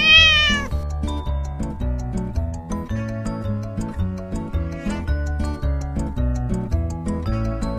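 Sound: cat meowing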